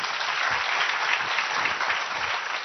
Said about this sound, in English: Nice round of applause.